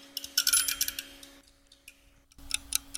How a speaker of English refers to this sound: I have the timer here, the official kitchen timer. I'm going to set this thing for 10 minutes.